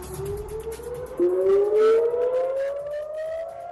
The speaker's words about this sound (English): Sirens on the Israeli-Lebanon border as Iron Dome missiles fire to intercept incoming rockets, presumably from Hezbollah.